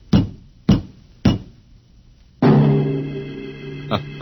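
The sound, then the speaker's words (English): Three firm, evenly spaced knocks on a door, followed by a loud, sustained musical chord that slowly fades, with one more soft hit near the end. No one speaks. “The last man on Earth sat alone in a room. There was a knock on the door.”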